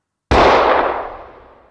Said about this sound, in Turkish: bir el silah sesi duyuldu. Birkaç saniye sonra iki el daha ateş edildi. Silahların peşinden siren sesleri yükseldi. Bir anda yüz binlerce insanın dip dibe olduğu meydanda yankılanan bu sesler büyük bir paniğe sebep oldu.